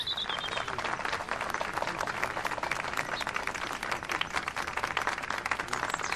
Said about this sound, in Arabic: تصفيق رجاء.